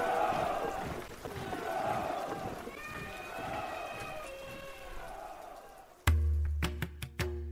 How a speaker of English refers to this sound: Fading behind us, we hear the faint blast of a trumpet and the shouts of warriors charging.